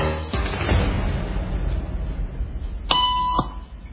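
A single electronic beep tone, steady and fairly high-pitched, sounds for about half a second over a constant low rumbling background noise; the tone is the signal in a social conformity experiment, cueing people in a room to stand up.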